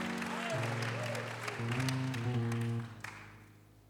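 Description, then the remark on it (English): A seated audience at a worship service claps together in a dense, steady wash of applause over sustained low musical chords, then the clapping tapers off and fades out near the end. “Clap your hands one more time as you're seated.”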